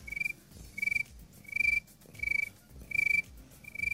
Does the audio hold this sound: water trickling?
no